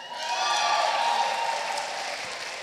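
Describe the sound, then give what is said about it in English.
An audience claps steadily for a few seconds, a dense, even patter of many hands with no voices heard, holding at a fairly loud level before easing off slightly at the end. “Pretend like I just said it and clap like you meant it, all right?”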